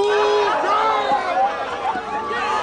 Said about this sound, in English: The crowd jeers as Brian pulls up.